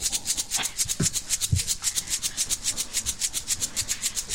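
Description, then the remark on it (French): Crickets chirp in a steady, rapid rhythm as part of a summer-night ambience reproduced live on the radio, with bright high-pitched pulses repeating several times a second without pause, and a couple of soft low thumps early on. “Écoutez d'abord les grillons.”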